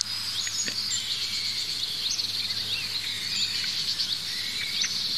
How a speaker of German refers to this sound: Die Amsel ist immer noch aufgeregt, wie ihr hört.